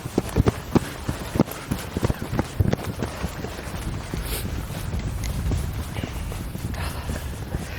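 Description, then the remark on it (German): Quick thudding footsteps of people running outdoors at night as light drizzle starts and the weather turns bad, a rapid run of impacts for the first few seconds before they blur into heavy wind rumbling against the microphone. “Wir sollten reingehen. Benni, wir müssen rennen jetzt.”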